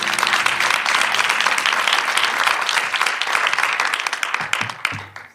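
A crowd applauds steadily, a dense wash of many hands clapping at an even loudness for about five seconds before tapering off quickly at the end, with a faint low tone underneath at the start.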